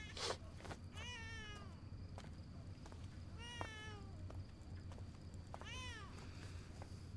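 A baby cries in three separate wailing bursts, each rising and then falling in pitch, spaced a couple of seconds apart over a steady low background hum, with no talking.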